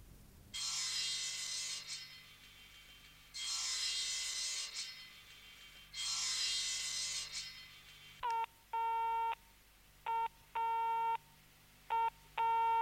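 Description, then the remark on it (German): Three long bursts of harsh, hissing noise give way to a telephone busy signal, a loud tone that beeps on and off in quick, regular pulses through the last few seconds. “Ich bin also abgeschnitten.”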